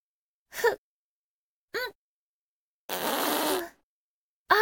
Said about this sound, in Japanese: おなら出る。お姉さんのお尻の穴から、ブーっておなら出しちゃうんだから。出すよ。おなら出しちゃうよ。